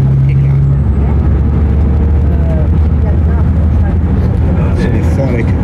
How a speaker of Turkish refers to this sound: Arnavut köy durağına doğru geliyorum. Ama en azından bu otobüsümüzde klimamız var arkadaşlar.